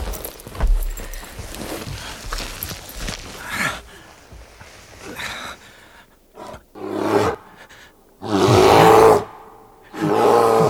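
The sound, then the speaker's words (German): Heavy footsteps crunch and thud outside for several seconds, then a bear lets out a series of loud, deep roars and growls, the last ones the loudest. “Es ist ein Bär.”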